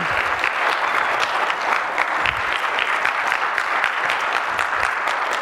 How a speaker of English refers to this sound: You know what? You should clap for all of this. That's God's kingdom.